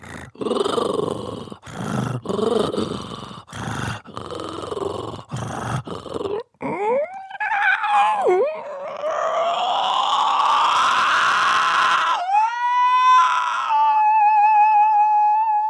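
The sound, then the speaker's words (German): A voice imitates a cat's purr as a demonstration from a stage piece with a chapter about cat purring: a loud, raspy rumble in rhythmic bursts, then gliding, whistle-like vocal tones that rise and hold a steady high pitch. “Und ich kann jetzt einfach mal mit der Stimme ein bisschen schnurren.”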